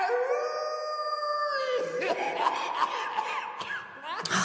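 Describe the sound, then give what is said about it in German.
A long, steady, high wolf-like howl at the full moon at night holds for over a second, then breaks into a loud, wavering run of yips, whoops and sliding cries that rise and fall in pitch until the end. “Der heult mal wieder den Mond an.”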